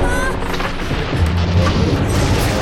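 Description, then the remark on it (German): A lightning strike slams into the wing of a building with a loud, sustained crackling roar over a deep rumbling boom that stays heavy for the full few seconds. “Ein Blitz! Da! Der Anschlag hat den Flügel getroffen!”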